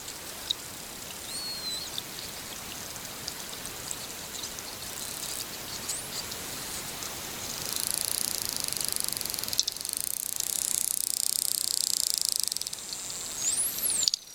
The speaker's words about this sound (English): I want to circle back to dolphin whistles because I love that they kind of give themselves signature whistles. They give themselves names, and I want to play a quick clip of one of those.